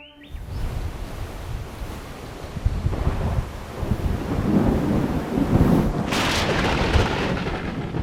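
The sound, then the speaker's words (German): A heavy tropical rainforest storm in the warmer months roars with deep rolling thunder and strong rushing wind, a dense, loud wash of noise that swells and surges throughout, with a sharper crackling burst near the end. “Stürme kommen in den wärmeren Monaten des Jahres und bringen sinnflutartige Regenfälle, starke Winde und Blitzeinschläge, die Löcher in die Baumkronen reißen.”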